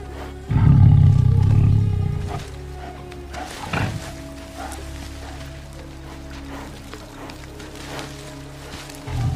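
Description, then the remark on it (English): A tiger in a forest, padding across dry, brown ground dotted with green plants, lets out one loud, deep, rumbling roar lasting a couple of seconds, followed by a quieter stretch of outdoor ambience with a faint low hum and occasional soft rustles. “A tiger pads across a stretch of dry, brown ground with green plants dotted around.”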